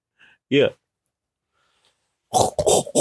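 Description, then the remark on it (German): A person imitates a pig's grunting: one short voiced grunt, then after a pause three rough, breathy snorts in quick succession. “Einmal sitzt das dicke Schweinchen neben mir.”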